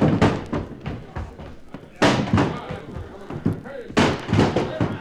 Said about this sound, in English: Okay, one more rush to get that door open.